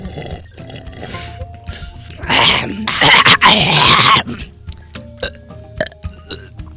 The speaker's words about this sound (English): Ignore our unison burp and slurp session.